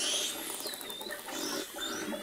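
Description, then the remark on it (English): Dolphin sounds recorded by underwater microphones in a dolphin enclosure at Six Flags in Vallejo, California, home to the dolphin Bella and her calf Mira: high, sweeping whistles rise and fall over a dense crackle of rapid clicks and buzzing pulses, steady, with no voices. “Ames put underwater microphones into the dolphin's enclosure and recorded the sounds the animals were making.”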